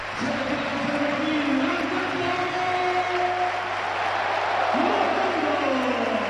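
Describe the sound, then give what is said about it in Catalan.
A stadium crowd gives a sustained ovation for Villarreal's man of the match, Alberto Moleiro, as he is substituted off. It is a steady wash of applause and cheering that stays loud and even throughout, with a few voices rising above the roar. “Se'n va Alberto Moleiro, a sobre ser ovació de gala perquè és l'home del partit. Rubio, escoltem-la.”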